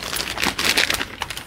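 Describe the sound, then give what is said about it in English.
Crinkling of a brown paper evidence bag containing one white T-shirt: dry, papery rustles that flare and fade in quick uneven bursts for about a second and a half, with no voices. “It's lab number or item number for this case 19, which was a brown paper bag containing one white T-shirt.”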